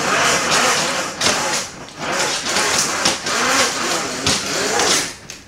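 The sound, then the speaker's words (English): Window blinds are drawn open with a steady, rattling clatter, a rough scraping swish broken by repeated sharp clicks and bumps for several seconds, with no talking. “I'm going to open another blind here just before I do.”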